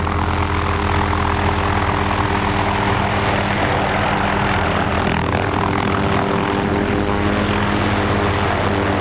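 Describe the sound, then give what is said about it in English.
A loud, steady roar of a large helicopter descending from a bright blue sky to a landing pad by a small brick hospital, its engine whine and thumping rotor filling the air continuously with no voices. “Later, a large helicopter descends from a bright blue sky into a landing pad by a small brick hospital.”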